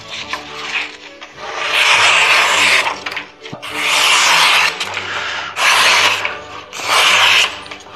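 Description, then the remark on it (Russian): A sharp knife slices through paper in four long, rasping strokes, each a loud hissy scrape with brief pauses between them and no voices. “Ну, мы лучше споем про заточенный нож на бумаге.”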